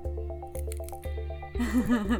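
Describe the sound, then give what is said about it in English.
Wet, gooey drips and faint crackles from a goo containing solid crystals repeat at a steady pace, about every half second, then turn into a louder, messier squelching near the end, heard up close over a low steady hum. “Do you hear that dripping noise?”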